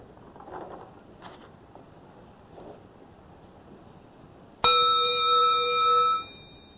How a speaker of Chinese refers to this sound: 像敲钟声，这个钟声未敲之前是极灭相了，是吧？这个没问题了啊。敲了之后声音没有了，也是极灭相。正敲的时候声音出来了，也是极灭相。